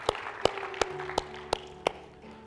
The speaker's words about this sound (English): Would you give the Lord a hand clap with those who are coming to Jesus for the first time today?